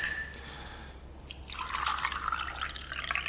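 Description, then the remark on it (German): Water pours steadily into a glass for a couple of seconds, a splashing trickle that starts after a brief quiet pause, with no voices. “Ein Glas Wasser, bitte.”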